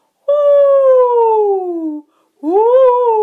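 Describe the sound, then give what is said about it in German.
A sung vocal siren on an "oo" (U) vowel, sung with a yawning feeling and the soft palate raised: one long smooth glide sliding downward in pitch, a short pause, then a second glide that swoops up and starts to fall again. It is loud and steady, with no talking. “Und das können wir auch mit U ganz gut machen. So eine Sirene.”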